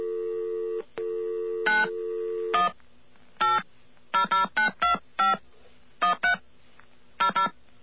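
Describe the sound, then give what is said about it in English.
A steady telephone dial tone hums briefly, then a quick run of about ten sharp touch-tone beeps dials the number of United We Stand America to call Ross Perot, in irregular bursts, clear with no voices. “Okay, we're calling Ross Perot now.”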